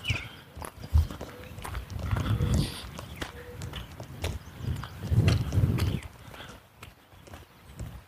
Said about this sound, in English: He's a little short-legged dog, pugnacious little bugger. He's well behaved, but he walks like an 80-pound bulldog. Boom, boom, boom, boom, boom, and he's about 4 inches tall.